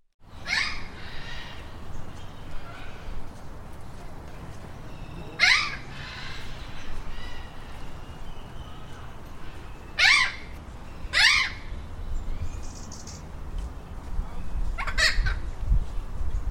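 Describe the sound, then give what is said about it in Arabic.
Tropical forest birds call out in sharp, loud bursts spaced several seconds apart, each cry sweeping downward, over a steady hiss of background forest ambience. “الغابة كانت تعج بأصوات الطيور الاستوائية وزقزقة الحشرات، وكأنها ترحب بالأصدقاء الصغار.”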